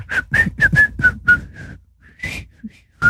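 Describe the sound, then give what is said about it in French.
A person whistles a short tune, a quick run of about six breathy, airy notes, a brief pause, then a few more notes. “C'est la façon dont tu mets la bouche qui marche mieux, en fait. Siffler.”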